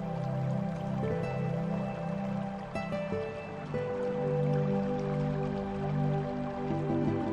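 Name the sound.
rushing water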